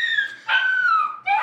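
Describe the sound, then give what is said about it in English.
A puppy, a miniature dachshund named Walter, yaps and whines excitedly, a few high-pitched drawn-out calls in quick succession, fairly loud, with no one talking. “Do you have a dog? Yeah, he's a puppy, and he got really excited and peed on the floor, and it's been really fun 15 minutes.”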